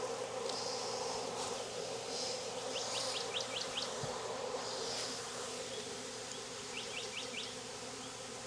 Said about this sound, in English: All right, I'm gonna do a shake. There are a lot of bees in there.